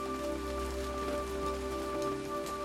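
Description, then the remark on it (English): Soft raindrops of an early morning shower patter steadily against a bedroom window glass, a faint, continuous wash of tiny taps with a low steady hum underneath and no voices. “The raindrops patter softly against the bedroom window.”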